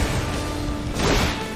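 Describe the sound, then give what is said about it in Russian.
A big explosion roars, a dense blast of rumbling noise that swells into a sharper, brighter burst partway through and keeps booming loudly to the end, with no voices. “Большой взрыв!”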